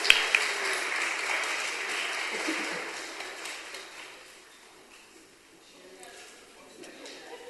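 An audience in a church applauds: a dense, steady patter of many hands clapping for a few seconds, then thinning out and fading to scattered claps toward the end.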